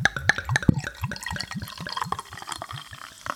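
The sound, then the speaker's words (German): Beer glugs from a bottle into a glass, a quick rhythmic run of gurgling bursts with a fizzy, splashing wash, steady for a few seconds with no one talking. “Wir schenken uns das mal ein, dass wir sehen, wie es aussieht.”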